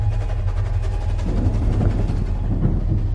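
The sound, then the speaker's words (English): A train roars by, a steady, heavy low rumble with rattling mechanical clatter layered on top, loud and unbroken for the full few seconds. “only daring to expel an audible squeal as the trains roared by.”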